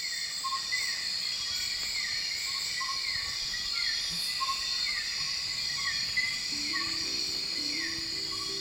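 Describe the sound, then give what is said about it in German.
A dense night-time chorus of insects in the Borneo rainforest: layered high, steady trilling and buzzing, with repeated short descending chirps every half second or so, and a faint low tone entering near the end. “Zur Feier des Tages gerne nochmal Borneos Regenwald bei Nacht.”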